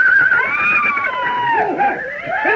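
animal, horses neighing and whinnying

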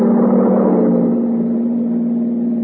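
vehicle, truck driving past

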